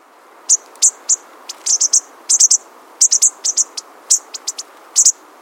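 High, thin chips and twittering notes from small birds, coming in quick irregular bursts and clusters over a faint hiss: a flock of common bushtits, tiny 4.5-inch plain gray long-tailed birds, calling to each other.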